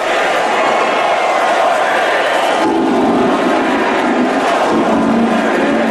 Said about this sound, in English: Then into that serenade of the president, the crowd started chanting.